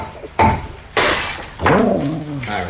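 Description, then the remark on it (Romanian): Glass breaking: the neck of a glass bottle is broken off to get the paper documents out of it, three sharp, bright cracking bursts about half a second apart, the last one trailing off into a lingering, ringing rattle. “Să-i spargem numai gâtul. Așa o să le putem scoate fără să stricăm toată sticla.”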